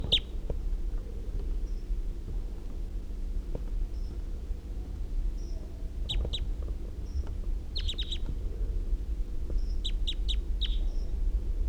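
A wild male bird calls from the trees after playback, with short, high-pitched chirps in quick clusters, repeated several times over a steady low rumble of background noise. No one speaks.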